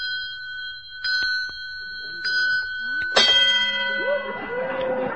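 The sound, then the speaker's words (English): A bright, ringing bell of an automatic egg-counting device on a farm, which rings every time an egg is laid, strikes about once a second, four times in a row, each chime hanging and sustaining. After the third strike a busier, louder jumble with voices rises beneath it. “Oh, that's an automatic counting device. It rings a bell every time an egg is laid.”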